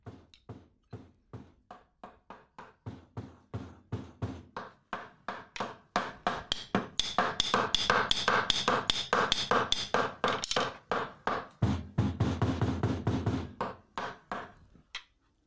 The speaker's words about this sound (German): Bald schon hörst du aus der Tiefe des Waldes das Geräusch von Hämmern und Nägeln.